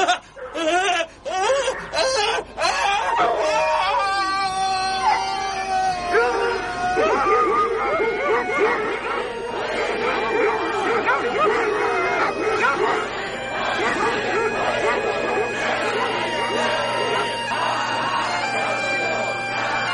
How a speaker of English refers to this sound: It's too late! They come, the dogs, the red dogs.